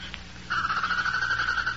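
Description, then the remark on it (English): A prairie chicken gives a single long, steady moaning call at a mid pitch as it settles down to roost in the evening on the prairie. It begins after a brief pause and holds with a slight waver to the end, over a faint low background hum. “That's the prairie chicken. She moans like that when she settles down to roost.”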